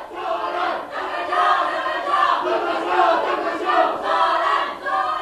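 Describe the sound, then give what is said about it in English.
A group of people scream and shout together at the very end of a taiko drumming session, in one loud, sustained roar that swells and dips slightly over about five seconds, with many overlapping voices and no clear words. “We communicate each other, and the very end screaming.”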